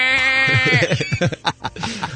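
A loud, quavering goat bleat holds a long note up front, then gives way to a choppy, rhythmic stretch of a pop song remix with vocals and beat.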